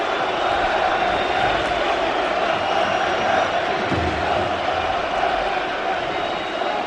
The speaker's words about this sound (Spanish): Mira, la gente aprovecha otra vez para gritar Bartomeu dimisión. Vamos a escuchar al pueblo.